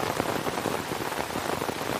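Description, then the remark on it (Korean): Heavy rain pours down steadily in the dark, a dense, continuous hiss of drops hitting the ground, loud and unbroken with no voices. “하지만 이번에도 요란한 빗소리에 막혀 소용없었다.”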